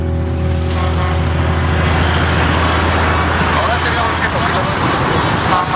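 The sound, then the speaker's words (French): A steady roar of road traffic past a protest blockade in France, cars still getting through despite some jams, with a low engine hum underneath, cars rolling past continuously at an even, fairly loud level, with indistinct voices mixed faintly into the noise. “D'ailleurs, les voitures, vous pouvez le constater, elles passent aisément.”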